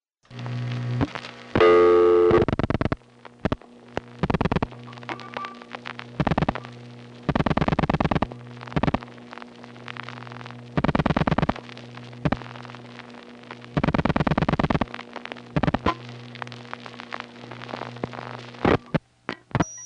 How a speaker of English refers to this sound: Now, in independent steps, very often the ringtone that you hear is not at all the same as what's ringing the phone. In this particular case, you can actually hear an audible ring plus a power ring that are out of phase.